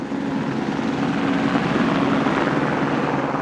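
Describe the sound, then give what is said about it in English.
A Utah Department of Public Safety helicopter's blades thrum steadily in a loud, continuous rotor drone with a rhythmic pulsing low hum, sustained throughout, as it climbs into brisk winter air under blue skies and cruises south across the Salt Lake Valley. “The chopper climbed into the brisk winter air, blades thrumming as it cruised south across the Salt Lake Valley.”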